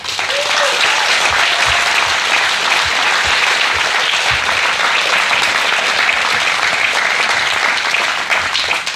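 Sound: applause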